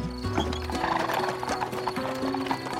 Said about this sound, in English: But just as the carriage was driving away, someone called out from behind them. Wait! Stop the horses!